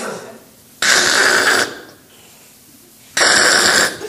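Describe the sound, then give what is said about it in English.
Two loud, harsh bursts of a bus starter motor grinding, each under a second, separated by a low steady hum. The engine never catches. “That sounds like the starter. And it never did start.”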